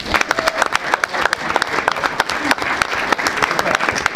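A crowd claps steadily, the dense patter of many hands filling the whole stretch at a fairly loud, even level, with no voices rising above it.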